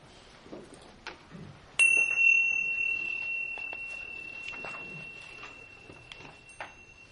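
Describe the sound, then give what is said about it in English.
A single bright bell strike, struck to begin a meditation, rings out sharply, its clear tone sustaining and slowly fading over several seconds while soft rustling and small movement sounds continue in the background. “I need the bell.”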